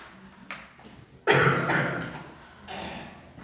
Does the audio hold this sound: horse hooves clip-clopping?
no